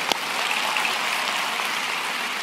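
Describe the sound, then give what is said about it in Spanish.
A crowd applauds the Lord loudly and steadily, a dense wash of many hands clapping together with no break and no voices over it. “Y denle un aplauso fuerte, fuerte al Señor.”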